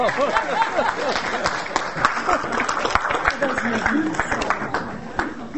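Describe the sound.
An audience claps steadily for several seconds, a dense patter of many hands at an even loudness, with voices calling and chattering underneath, applauding a person for reading out a list of names.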